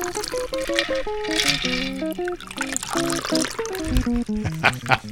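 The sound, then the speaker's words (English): A blue cocktail is strained into a glass, a steady splashing trickle of liquid lasting a few seconds, heard under melodic background tones. “And then you strain it into your glass.”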